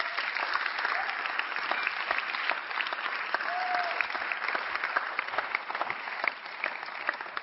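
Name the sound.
audience applauding volunteers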